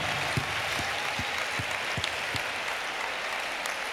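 A concert audience applauds steadily in thanks to a former band member, a dense wash of many hands clapping at an even level, with a few sharper individual claps standing out in the first half.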